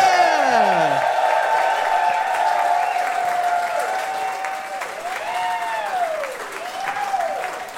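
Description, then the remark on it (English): A crowd at a live show bursts into sustained applause as two guests are welcomed on stage, dense clapping holding steady for several seconds, with whoops and cheers rising over it in swooping, pitched calls. “Could you please give them a big round of applause now?”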